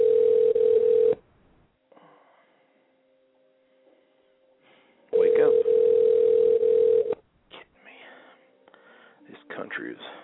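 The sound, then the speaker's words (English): A phone ringing unanswered: two long, loud, buzzing ring tones separated by a few seconds of near silence, followed by faint, scattered rustling and murmuring. “Built on lazy people who can't answer their damn phone.”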